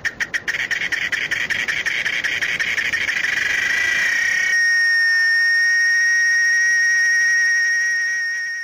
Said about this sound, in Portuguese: A cigarra passou o verão inteiro cantando, sem se preocupar com o inverno que se aproximava.